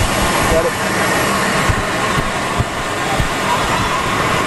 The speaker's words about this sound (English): You hear Air Force One there in the background.